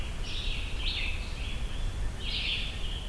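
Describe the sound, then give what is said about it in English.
Red-eyed vireos sing short, high whistled phrases separated by brief pauses in a forest under a partial canopy, over a steady low rumble of forest ambience. “It's really nice how loud the red-eyed vireos are in here.”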